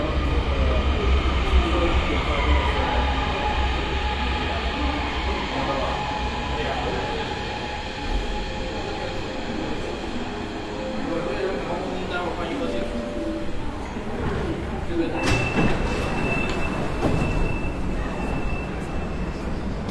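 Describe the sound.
A subway train runs with a loud, steady rumble and a whining motor tone that shifts in pitch, with a sharp clack near the end followed by a thin high tone and indistinct voices.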